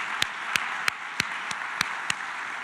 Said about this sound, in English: How about another big round of applause for all of our speakers today and the wonderful information?